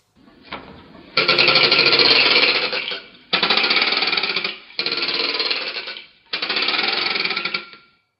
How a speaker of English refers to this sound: It's called a clacker. It's about 3 foot long, and it has a little bit of plastic that scrapes against these dowels, and there's a bell in it.